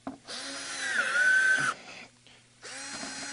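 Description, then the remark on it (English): A power drill whirs in two bursts while drilling holes, the first rising in pitch as it bites in for over a second, then a pause and a second shorter run starting up, fairly loud. “What's happening is I keep drilling holes.”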